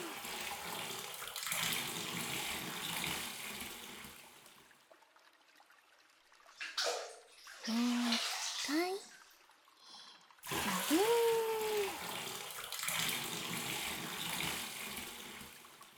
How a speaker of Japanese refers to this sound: でも、洗い落としちゃいまーす。まずお湯で、目を閉じてくださいね。ザフーン。